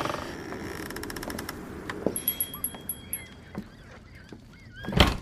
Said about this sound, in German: Die Tür klemmt.